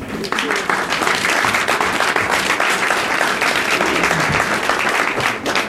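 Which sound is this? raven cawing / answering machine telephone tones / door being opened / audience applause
audience applause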